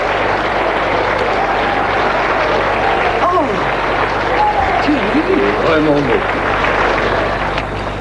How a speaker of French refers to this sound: La conférence a lieu, il est très applaudi.